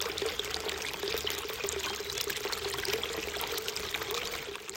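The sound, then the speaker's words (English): Steady trickling and pouring water from a water feature at Pazo de Señorens, a continuous gentle splashing flow with no pauses and no voices. “Or finally, this one, recorded at the water feature at Pazo de Señorens.”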